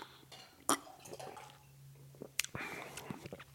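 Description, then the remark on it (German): Water trickles quietly into a glass or cup of lemonade to dilute it, a soft liquid splash with a couple of sharp clinks, faint, with a hint of voice in the background. “Also wenn man so ein bisschen mit Wasser streckt.”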